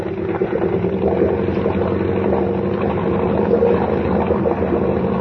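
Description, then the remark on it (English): A motorboat engine drones steadily at high revs, turning about 2,800 to 3,000 rpm and running a little hot as the boat throws a big wake; a loud continuous rumble with a churning, buzzy texture and a low throbbing pulse, with no voices. “Boy, we throw a wake like a little Queen Mary.”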